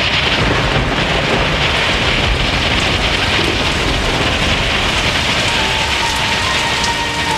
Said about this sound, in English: When Pharaoh said no again, God sent a plague of hail. Hail struck down people, animals, and plants.